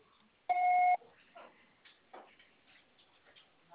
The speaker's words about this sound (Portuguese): Você só será tarifado após o sinal.